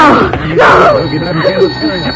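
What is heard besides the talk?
telephone ringing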